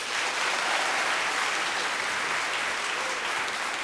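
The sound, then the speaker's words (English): An audience claps steadily for about four seconds to vote that a quoted line was written by Atwood, a dense, even wash of many hands with no pauses and no voices rising above it. “Clap if you think this was Atwood.”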